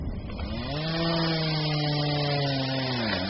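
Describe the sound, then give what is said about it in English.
A chainsaw roars steadily, its engine pitch sagging and rising as it bites into wood, continuous for the whole stretch with no voices; drivers cutting trees toppled by a storm on the road from Manaus to a research camp in the Amazon jungle, Amazonas. “Sounds of chainsaws and machetes, not from loggers, but our drivers.”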